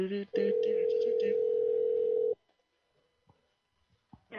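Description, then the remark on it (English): A telephone rings through the line as a call back is placed: one loud, steady ring tone lasting about two seconds, followed by near silence with a few faint clicks. “Call him back. Put that motherfucker back on the line.”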